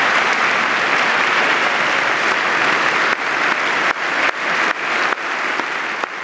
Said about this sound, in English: And he had that most powerful theatrical moment of the night where he led Republicans and Democrats in a long applause for the widow of Ryan Owens. And he did not stop.